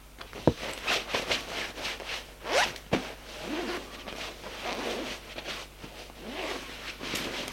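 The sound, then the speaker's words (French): A clothing zipper is pulled several times in quick, rasping strokes, with sharp clicks and rustling fabric between them, as a man undresses in his bedroom to take a shower; no one speaks. “Une fois dans sa chambre, il veut se déshabiller pour prendre une douche.”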